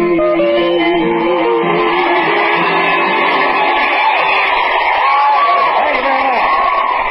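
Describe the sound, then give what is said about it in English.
A live audience at the Grand Ole Opry cheers and whoops continuously, a dense wash of shouting voices with high rising yells and whistles, loud and sustained throughout. “Well, we got a good crowd here tonight.”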